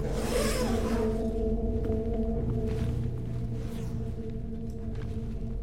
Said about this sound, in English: She zips up his body bag, then goes to the lanky man.